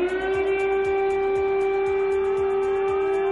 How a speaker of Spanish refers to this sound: Sirenas que advierten a la población de un bombardeo inminente.